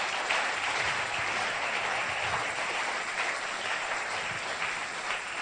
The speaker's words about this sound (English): Clap unto the Lord.